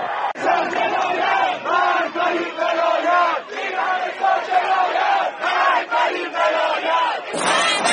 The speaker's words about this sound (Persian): همچنان که دادخواهان خون حدیث نجفی و پارسا رضادوست در چهلم آن دو راه‌های منتهی به گورستان بی بی سکینه را با سیل جمعیت خروشان و فریادهای خشم خود به لرزه درآوردند، در مراسمی که شاهد دستفشانی مادر پارسا در سوگ پسرش بود.